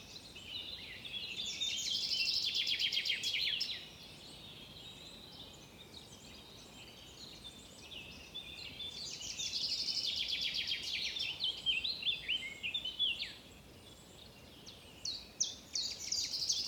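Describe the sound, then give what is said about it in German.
Birds chirp and sing in busy, overlapping bursts, bright trills and tweets rising and fading across the stretch, with quieter gaps between the fuller choruses; no voices. “Das Gezwitscher der Vögel.”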